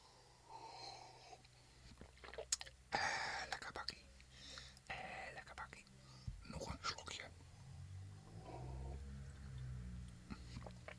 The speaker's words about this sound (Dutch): Nou, ik zit hier dus lekker om een kopje koffie. Hij begint een beetje koud te worden. Even een klein slokje.